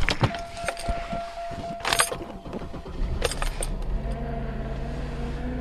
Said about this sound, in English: It's the morning. I am headed to Grandma's car to start it up.